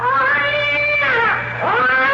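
A cat yowls loudly in long, wavering cries that rise and bend in pitch, with a brief dip before a second drawn-out wail, over a faint low hum.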